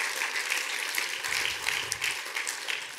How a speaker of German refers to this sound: Yes, danke vielmals am Theaterteam. Könnt ihr Ihnen noch einen Applaus geben? Noch einmal.